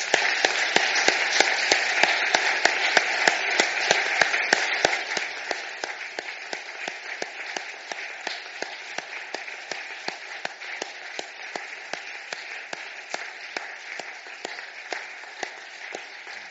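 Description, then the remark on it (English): An audience applauds steadily, dense clapping from many hands, strongest for the first few seconds and then settling into a softer, thinner patter that continues to the end. The applause greets people who have just been prayed for during a church service. “Let's greet them with a round of applause.”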